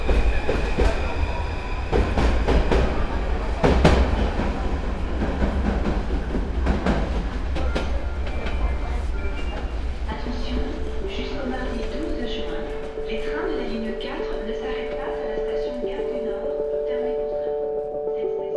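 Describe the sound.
A Paris metro Line 5 train toward Bobigny Pablo Picasso via Porte de Pantin rumbles along the rails with heavy low-end roar and rhythmic clacks, then tonal whines and squeals rise as it slows; faint voices murmur underneath.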